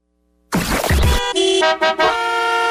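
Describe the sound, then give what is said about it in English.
A loud car horn blares in several honks as the sounder for a radio traffic report: a noisy burst at first, then sustained tonal blasts with brief breaks between them, clear and prominent with no talking. “I said after Andrew Bell, traffic!”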